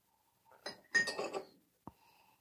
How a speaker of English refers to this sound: Ooh, that's rather dark. Oh, that one sounded good. That was not a sound effect. That was real, bro. Actual beer being poured. Actual beer.